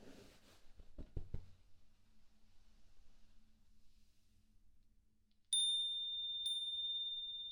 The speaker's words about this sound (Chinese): 起床！你在装死，我按门铃了。